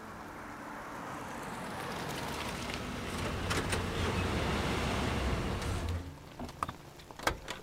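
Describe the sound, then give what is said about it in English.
A truck's engine rumbles in, growing louder until it pulls up and idles down, followed by a few short clicks and knocks as it settles. “Stand fast! Incoming truck!”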